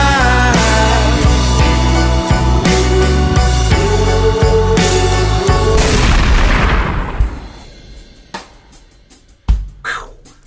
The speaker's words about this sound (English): La grande explosion. Oh yeah. La transition violente pour une chanson douce.